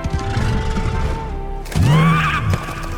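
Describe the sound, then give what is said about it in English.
A mighty horse seemingly made out of the ocean, pacing the shore of the Dark Sea, gives a single loud neigh lasting under a second, its strained pitch rising and then sagging, after a stretch of steady rushing noise with a low hum. “And it was there, the form of a mighty horse, seemingly made out of the ocean itself. It was pacing the shore, its eyes glowing a majestic blue.”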